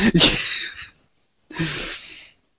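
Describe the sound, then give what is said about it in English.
Two harsh, explosive coughs separated by a short pause of silence, each a loud, breathy burst that trails off, with no talking in between. “Oh, by the way, because of Breaking Bad, every time I cough now, I am extremely paranoid.”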